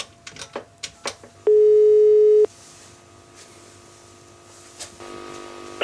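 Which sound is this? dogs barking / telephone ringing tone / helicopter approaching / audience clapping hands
telephone ringing tone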